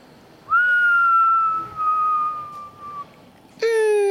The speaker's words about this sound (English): You're whistling like a very dramatic uncle who's about to tell us about when he was fighting Maburu.